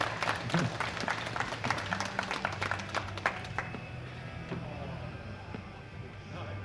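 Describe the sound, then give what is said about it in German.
An audience in Bad Salzungen applauds the show's host with dense, overlapping claps for about three and a half seconds, then the clapping thins out and fades into a softer murmur of the audience. “Doch, ein kräftiger Applaus auch in meiner Anwesenheit für unsere charmante Moderatorin”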